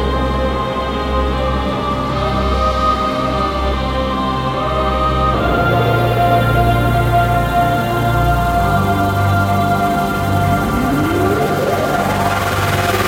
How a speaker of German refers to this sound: Wir spielen den Jingle und dann sehen wir uns und hören wir uns gleich wieder.